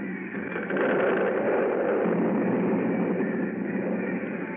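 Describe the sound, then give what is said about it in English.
A building, Harris Hall, collapses into a hole after its foundation is undermined, with a loud, continuous rumbling roar, a dense wash of crumbling, grinding noise that holds steady for several seconds without letting up. No voices are heard. “The building! The foundation's under mine! It's crashing!”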